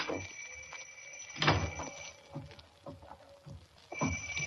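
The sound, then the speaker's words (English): A door is opened late at night to a visitor after the doorbell rings, with a sharp clunk of the latch followed by a few scattered knocks and shuffling thuds against a steady faint hum. No one speaks. “Close the door.”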